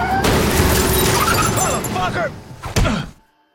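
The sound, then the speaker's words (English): A loud car crash into the side of another car at an intersection: sustained crunching metal and shattering glass with some screeching, then a heavy thud near the end before the noise cuts off into silence. “They crash into the side of a car at an intersection.”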